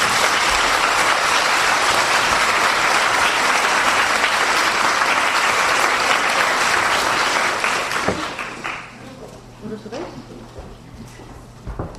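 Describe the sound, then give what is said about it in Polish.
A crowd claps loudly and steadily for a female colleague for about eight seconds, a dense wash of applause that then abruptly thins out into scattered, fading claps and faint room noise. “Brawa do koleżanki.”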